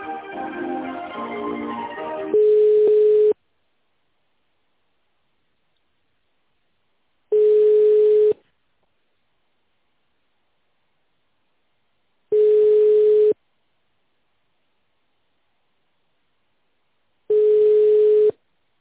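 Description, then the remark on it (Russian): Ringback tone of an unanswered phone call being connected to extension 28-64: four steady, mid-pitched beeps, each about a second long, repeating every five seconds or so with silence between, after a brief muffled sound at the start. “Так, 28-64 соединение.”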